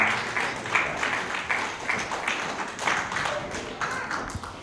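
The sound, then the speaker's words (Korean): An audience at an Easter service applauds together to give glory to God, a dense, steady wash of many hands clapping at moderate loudness for the whole stretch, with no voices standing out. “우리 다시 한번 박수로 하나님 앞에 영광 올려드리겠습니다.”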